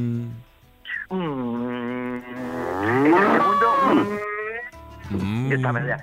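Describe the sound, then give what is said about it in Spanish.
A man's voice gives a long, drawn-out imitation of a cow mooing, rising and wavering in pitch, followed by a shorter moo-like call at the end, fairly loud. “Yo me quedé, vamos, aquello era una vaca.”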